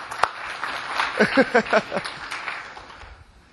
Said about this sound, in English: See, now you guys have my expectations set. I'm expecting that much applause for, I'm just kidding.